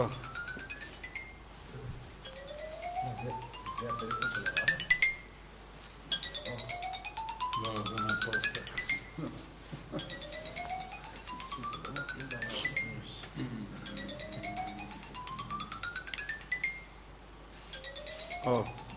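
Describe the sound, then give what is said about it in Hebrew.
A phone ringtone plays a repeating rising chirpy phrase about five times in steady succession, clear, while people talk quietly underneath; the call is from Rav Druckman. “הנה, זה רב דרוקמן מצלצל.”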